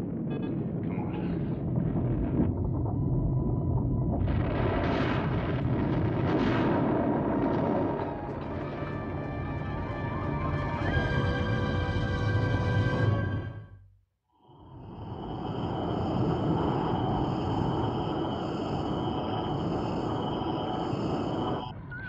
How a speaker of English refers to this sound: Must be shockwaves from the storm.